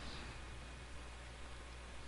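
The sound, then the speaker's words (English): A steady, soft hiss of rain starting to fall outdoors, continuous and even throughout, fairly quiet with no voices or other distinct sounds. “It's starting to rain outside, motherfucker.”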